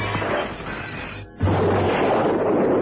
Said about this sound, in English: On the stroke of 8, Holmes lobbed the parcel at the window. The explosion rocked the room.